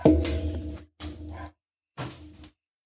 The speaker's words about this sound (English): There's my dog's howling. Must be an Amazon fucking delivery.